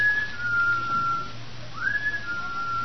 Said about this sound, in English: Well, what could that be? That whistle? Yes. Oh, I imagine it's just one of the fellas outside or something. Oh, it sounded as though it were right here in this house. It sounded as though it was in the cellar.